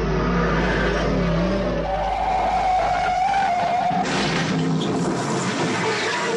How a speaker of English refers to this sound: Even the sound of the engine, that low roar, was carefully calibrated to tap into a potential buyer's memory bank.